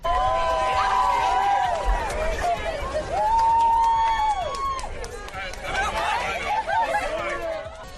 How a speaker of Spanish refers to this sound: Así, entre lágrimas y gritos de alegría, celebraban la noticia sus fans a las puertas del juzgado.